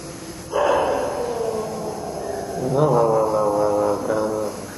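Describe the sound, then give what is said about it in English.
A dog barks in drawn-out, howl-like calls: one long sustained cry followed by two shorter ones, loud and tonal over a faint background hum. “Hello, doggy.”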